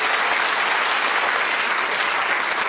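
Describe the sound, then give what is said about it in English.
A steady, dense round of applause from an audience, many hands clapping together at full volume with no pauses, sustained throughout. “Can you give me a round of applause?”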